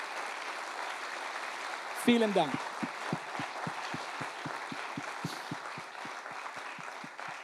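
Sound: audience applause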